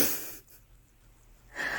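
A sneeze-like burst of breathy, hissing noise, fairly loud, followed by a quiet pause and then a second shorter rush of air. No one speaks.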